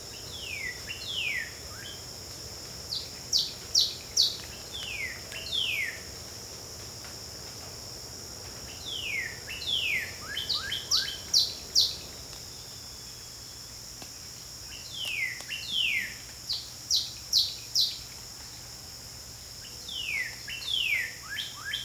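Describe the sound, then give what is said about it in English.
A Carolina wren sings loud, rolling phrases of quickly repeated notes, in four separate bursts with short pauses between, over a steady high buzz of insects. “This has been WSHU's Bird Song Break featuring the Carolina Wren.”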